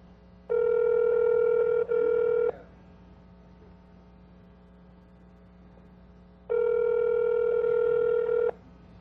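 Two long ringback tones from an outgoing call over a fixed VoIP line, each about two seconds, separated by a pause of several seconds. The tone sounds steady and buzzy over a faint background hum, with no voices.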